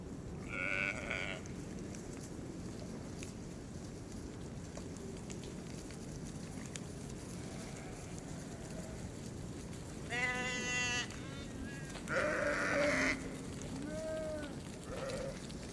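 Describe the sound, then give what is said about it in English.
Several sheep bleat at irregular intervals, one brief call early on and then a cluster of louder, wavering bleats near the end, over a steady outdoor rumble. “Come on, sheep. Come on. Come on. Come on, sheep. Good girls.”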